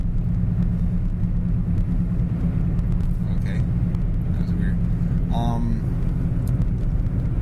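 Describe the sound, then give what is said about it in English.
A car's deep engine rumble outside fills the whole recording, steady and fairly loud, with a faint voice-like sound briefly rising over it. “what the heck is that car doing?”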